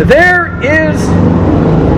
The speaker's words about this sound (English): There won't be loud motorcycles bothering the preacher in heaven, that's for sure. There may be motorcycles, I don't know, but anyway.